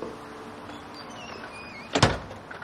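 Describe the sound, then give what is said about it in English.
A clinic door swings and shuts with a single solid thump near the end, preceded by faint high squeaky chirps over a quiet background. No one speaks. “Vanessa follows Bruce out the door of the clinic.”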